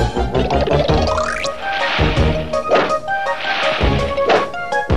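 A badminton racket thwacks a shuttlecock several times at an uneven pace, each hit a sharp whack, with a rising whistle-like sweep and busy orchestral music running underneath, as Tom plays badminton with Jerry hidden inside the shuttlecock in a Tom and Jerry cartoon.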